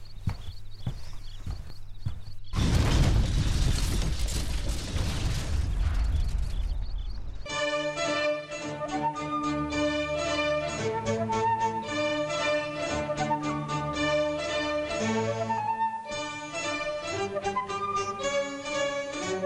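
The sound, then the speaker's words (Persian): After a low hum, a loud roaring explosion, the second and stronger one, bursts in and rumbles for about five seconds as part of a house collapses, then gives way to music. “انفجار دوم قوی تر بود. قسمی که قسمتی از خانه ویران شد و من روی زمین افتادم.”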